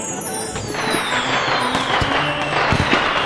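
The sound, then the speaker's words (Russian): Fireworks crackle and pop outdoors over a steady hiss, with a rocket whistling as it launches and sweeps downward and scattered sharp bangs, loud throughout, with no voices. “Ура! Салют! Побежали на улицу скорее.”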